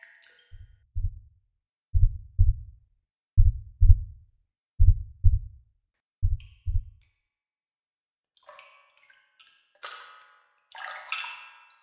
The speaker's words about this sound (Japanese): こうしてあなたの手を私の胸に当てれば、私の鼓動、伝わりますか？